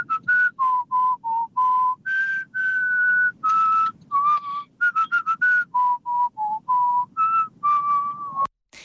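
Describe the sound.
A listener whistles a song melody as an entry in an M80 radio song-guessing game, a clear tune of short and held notes rising and falling in a steady rhythm, with no talking over it.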